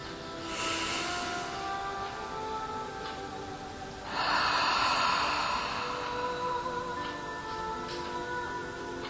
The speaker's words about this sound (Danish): Så tager vi lige en dyb indånding. Vi skal lige ned og mærke kroppen ordentligt.